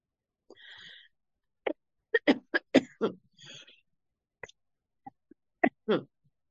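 A chameleon coughs and clears its throat: a string of short, sharp coughs and throat-clearing noises in irregular bursts, a few clustered tightly together, then sparser ones trailing off, with no speech between them.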